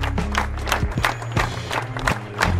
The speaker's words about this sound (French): Des fleurs blanches dans la Loire, un symbole de paix qui donne le ton de l'hommage à Steve Maya Canisso samedi matin à Nantes. Pas de prise de parole, mais de longues minutes d'applaudissements.